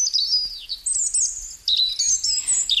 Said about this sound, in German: Vogelgezwitscher. Ein entspannendes Geräusch zur Nacht.